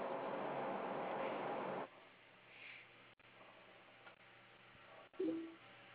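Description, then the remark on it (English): Telephone-line audio during a phone call: a burst of hissy line noise, then quieter static with a faint short beep and a brief low tone near the end, like the call being dialed and ringing. “I hear the ringing.”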